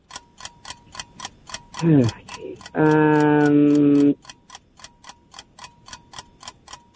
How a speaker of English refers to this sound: Oh, there's the timer on that one.